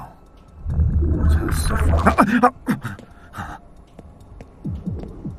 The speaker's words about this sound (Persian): چهار تا ضربان قلب میشنوم. پس حداقل اونا زنده.